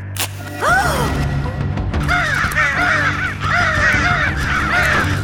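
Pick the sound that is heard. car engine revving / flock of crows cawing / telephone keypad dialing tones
flock of crows cawing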